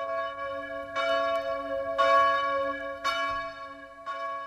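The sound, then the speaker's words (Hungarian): Church bells in Chicago ring out calling to common prayer, as they do five times daily under an Archdiocese of Chicago initiative during the coronavirus epidemic: about four strong strikes roughly a second apart, steady and unhurried, each leaving a rich humming resonance beneath the next toll. “Közös imára hívnak naponta ötször Chicago harangjai.”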